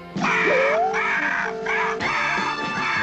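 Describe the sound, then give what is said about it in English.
A big mother bird squawks loudly, one harsh, wavering cry rising in pitch and running on for about three seconds with brief breaks, with no talking. “It's a mama bird again.”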